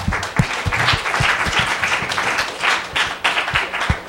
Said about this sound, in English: Let's give them both another hand clap.